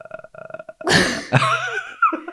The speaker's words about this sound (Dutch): nou zeggen, flinke boer.